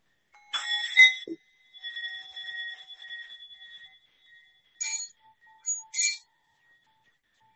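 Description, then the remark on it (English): A small bell is struck with a mallet three times with pauses between, each strike giving a bright metallic ding followed by a gently fading ring. Quiet, with no talking. “You are officially graduated with your own bell.”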